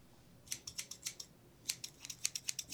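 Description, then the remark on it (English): Scissors snip repeatedly in two bursts, a quick run of crisp, bright metallic clicks, then a pause and another rapid series of sharp snips. No one speaks. “We have scissors out.”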